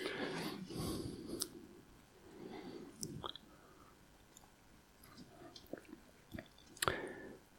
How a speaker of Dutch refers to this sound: Neem ik een slokje.